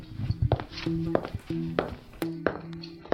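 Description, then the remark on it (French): A door to a room of the Hôtel Paradoxe, chosen at random, being pushed open: a series of hollow thunks and knocks, several sharp taps, over low sustained creaking tones that stop and start, with no voices. “Bienvenue, cher auditeur, je vais pousser une porte au hasard.”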